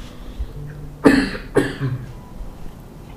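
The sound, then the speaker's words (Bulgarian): Two sharp coughs close together, the second following about half a second after the first, loud against a quiet background with faint low hum. “Кашлица, която освобождава излишното, непотребното напрежение, което доистича.”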